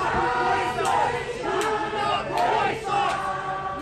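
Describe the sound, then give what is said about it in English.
A large crowd of alt-right supporters in Charlottesville, Virginia chants and yells "You will not replace us" in a loud, steady rhythm, many voices surging together in repeated swells with sharp shouted accents every second or so. “You can hear chants from alt-right supporters yelling, "You will not replace us."”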